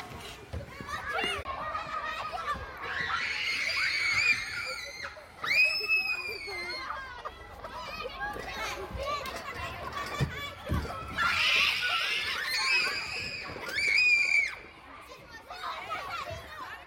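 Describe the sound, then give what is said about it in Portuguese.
Children shout, chat and play at school recess, with a girl's high-pitched screams rising above the noisy crowd several times. Kids' voices chatter and yell continuously, fairly loud. “Quando elas ficaram sabendo que nós estávamos gravando para o rádio, a menina começou a gritar para chamar a atenção.”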